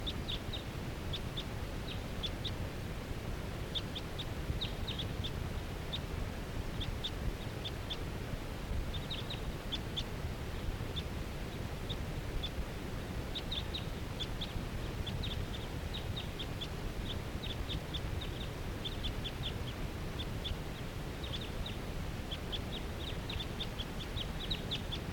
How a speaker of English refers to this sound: These are wild birds. Starting to kick off. Yeah. Okay, this is one of the wild birds calling from that tall fir tree by itself.